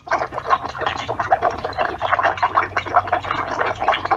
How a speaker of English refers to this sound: I'm a little embarrassed to say that I recorded it lying in bed with my fan blowing. Sorry for any confusion.